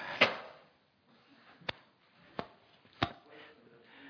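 A door is shut with a solid thud during a Bible lesson at Open Door Baptist Ministry, followed by three sharp, evenly spaced knocks or clicks. No one speaks.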